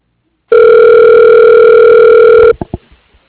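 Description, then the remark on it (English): A telephone rings while a dropped call is transferred back over at Fall Brothers: one loud, steady electronic tone held for about two seconds, then cut off by a few quick clicks. No one speaks. “Could I get transferred back over?”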